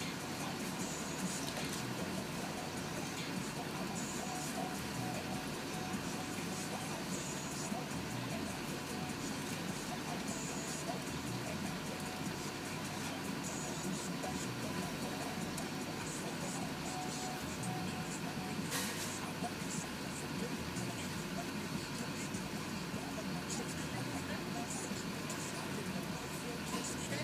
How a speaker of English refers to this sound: Oh, there's a big dually truck behind me and it's jacked up real high and the lights are shining right in all my side mirrors and mirrors and this is terrible.